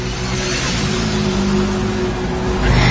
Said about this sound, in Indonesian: Kondisi jalanan saat itu cukup lengang. Kulihat beberapa motor melaju kencang.